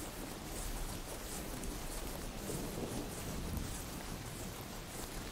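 Steady rain hisses throughout while a low thunder rumble from a distant thunderstorm with lightning rolls over a far-off meadow, swelling softly in the middle; no voices, just a continuous stormy wash.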